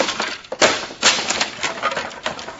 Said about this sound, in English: Now I'll rip the lining out of this trunk. Oh! Nothing there. Maybe there is a false bottom.